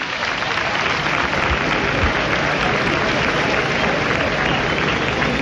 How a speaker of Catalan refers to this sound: Ja la gent que aplaudeix per haver facilitat aquesta crida.